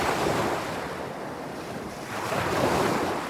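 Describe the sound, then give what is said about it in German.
Ocean waves wash onto a beach in a steady, rushing roar, swelling louder near the end, with wind buffeting the microphone and no voices. “Der lag nur eine Straße entfernt und sind dann am Strand lang gecruised und haben uns die Wellen angehört.”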